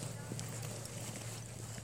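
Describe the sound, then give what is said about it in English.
Several soft, irregular knocks and clatters from the right, like rocks being kicked along the ground, over a steady wash of background noise. “It sounded like kicking rocks.”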